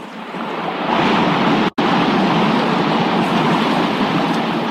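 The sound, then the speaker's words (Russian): A loud, steady roar of rushing water fills the whole stretch, like a powerful waterfall, broken only by a split-second dropout partway through. “Вот он, водопад!”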